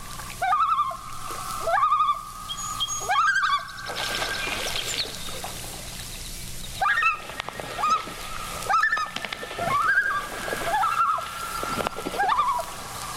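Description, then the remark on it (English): A female loon fans her wings against the water surface and rises out of the water, making rushing, splashing bursts, while repeated wavering, laughing calls ring out over the water. Her young are nearby. Nobody speaks. “Look at her fan her wings against the surface and rise out of the water in a spectacular marine dance to divert us from her young.”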